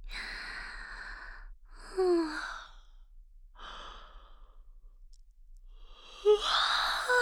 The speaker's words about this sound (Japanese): おっきなあくびしちゃった。で、お兄ちゃんもあくびしとうし。